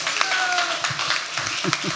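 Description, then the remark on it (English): An audience applauds steadily for about two seconds, a dense crackle of many hands clapping at once, with faint murmuring voices underneath. “a big round of applause there.”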